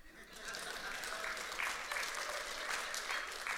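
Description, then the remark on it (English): A crowd breaks into sustained applause, a dense wash of many hands clapping that swells quickly and holds steady at moderate loudness for a few seconds. “And this is where you guys clap.”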